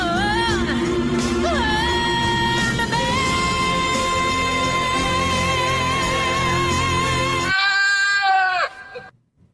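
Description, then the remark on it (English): A goat bleats in a long, wavering, melodic cry that rises and falls as if singing, loud and sustained for several seconds before trailing off into quiet. “what's a singing goat have to do with factoring?”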